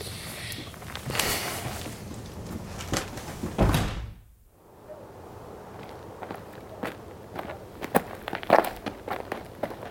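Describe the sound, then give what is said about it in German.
Several people take a walk outdoors in fine weather, their footsteps tapping clearly at a steady pace over a soft ambient background, with a heavier thump partway through before the steps continue. “Na los, gehen wir ein paar Schritte.”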